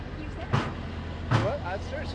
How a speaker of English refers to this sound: And our concrete truck is coming through. Which I may wait a little bit on.